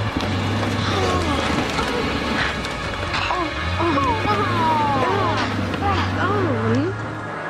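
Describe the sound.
A steady engine rumble runs beneath loud crashing and wrenching metal as the monster Megasaurus tears apart a bus, with growling, creature-like roars rising and falling over the din, and voices shouting throughout.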